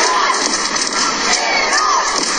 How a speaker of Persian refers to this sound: اما در این استادیوم کوچک تعداد زیادی زنان ایرانی هم حضور پیدا کردن و در حال فریاد زدن و تشویق تیم ملی ایران هستن. صدای اونها رو با هم بشنویم.